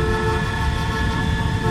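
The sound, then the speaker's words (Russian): Car horns blare in a steady, sustained chorus in a traffic jam, layered over a low rumble of idling traffic, loud throughout the short clip. “Самолет стоит в пробке.”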